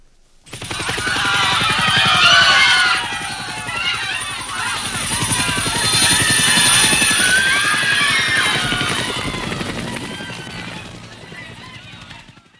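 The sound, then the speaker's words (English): An overloaded American military helicopter takes off from an embassy roof, its rotor thudding in a fast, steady chop with a high turbine whine, swelling louder and easing slightly over about twelve seconds, with indistinct shouting voices mixed in. “Others held on to the helicopters from the outside as the overloaded aircraft tried to take off.”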